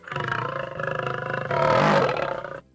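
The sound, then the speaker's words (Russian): A tiger with its paw caught in a trap in a birch forest growls ferociously in one sustained, rumbling roar lasting a couple of seconds. It swells louder and harsher partway through before cutting off, loud with nothing else around it. “Свирепо рычал он на жителей березового леса, которые собрались неподалеку, чтобы решить судьбу неблагодарного хищного зверя.”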